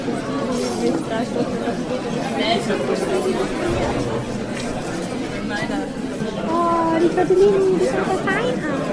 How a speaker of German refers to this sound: So hört es sich an, wenn du in der Uni-Mensa essen bist.